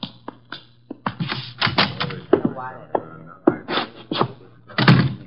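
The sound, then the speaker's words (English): A door is handled with a series of wooden knocks and thunks, clattering irregularly before it bumps shut, with a brief murmur of voice partway through. “The door”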